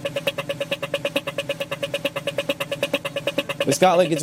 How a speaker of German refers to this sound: Ja, Das ist eine Fußgängerampel in Australien.